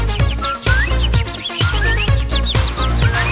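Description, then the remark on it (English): Whistled, bird-like chirps and short rising tweets, imitated by voices, repeat over a steady, rhythmic musical backing with a strong beat, bright throughout. “Let's make the sound of a bird.”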